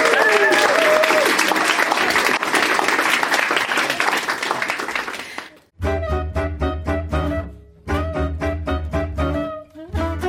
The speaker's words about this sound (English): Let's have a huge round of applause for Yola Yolas from Cambridge University.